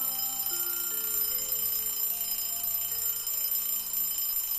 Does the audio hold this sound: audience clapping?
no